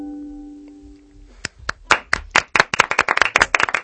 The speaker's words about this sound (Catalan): Els aplaudiments també sonen així? Sí. En el cafè? Moltes gràcies. No són enllaunats, eh? No. No són enllaunats. Són reals.